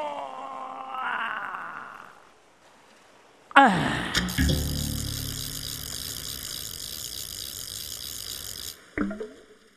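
A sudden, loud splash of a big fish bursts into the water partway through, followed by several seconds of sustained churning, rushing noise that cuts off abruptly near the end.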